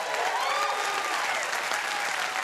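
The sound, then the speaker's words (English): An audience applauds steadily, a dense, even wash of many hands clapping with a few whoops and cheers rising above it, holding at a strong level throughout with no talking. “Now, to be clear, I instigated that applause for the 300th episode, not for me.”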